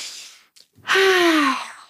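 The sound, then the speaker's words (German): A deep, audible breath drawn in, loud and airy with a faint voiced edge, following a softer breath a moment earlier. “Dass wir atmen einmal tief ein.”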